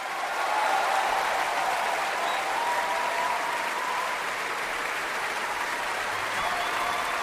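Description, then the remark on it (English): A large concert audience applauds steadily and loudly for several seconds, calling the players back for encores: a dense wash of clapping with scattered cheers and whoops rising over it, sustained without a break from start to finish. “When the cheering dies down and the encores have ended”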